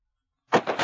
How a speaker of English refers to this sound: As gunshots echo across the wind-swept, snow-covered reaches of the wild Northwest, Quaker Puff Wheat and Quaker Puff Rice, the breakfast cereal shot from guns, present the Challenge of the Yukon.